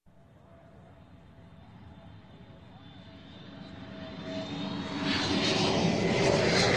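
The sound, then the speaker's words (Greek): An airplane engine drones steadily, a broad roar with a faint whine on top, swelling louder over several seconds. “Αεροπλάνο.”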